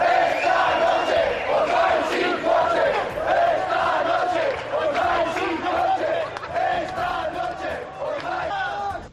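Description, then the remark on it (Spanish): A large crowd shouts and yells continuously during a violent protest on 20 September or 1 October, amid blows and the throwing of fences or stones. Many raised voices overlap in loud, wavering cries that rise and fall without a break for the whole stretch. “Gritos, golpes, lanzamientos de vallas o de piedras.”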